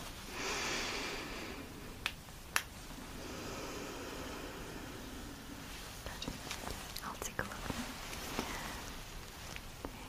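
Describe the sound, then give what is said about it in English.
Slow, airy breaths drawn in and out through the nose, fairly soft, with a few sharp little clicks and faint rustling between the breaths, as a person takes deep breaths during a nose examination after the nose is cleared with saline solution. “Keep breathing with your nose.”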